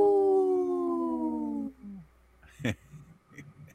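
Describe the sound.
A voice imitates a wolf for the wolf-protection group Howling for Wolves, holding one long, loud howl that slowly falls in pitch and fades out, followed by a short sharp burst of sound and quieter murmuring.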